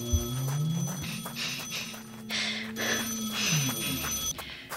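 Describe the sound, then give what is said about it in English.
A telephone rings in repeated bright, bell-like bursts over a steady tonal hum and background ambience, with no one speaking. “Phone stopped ringing.”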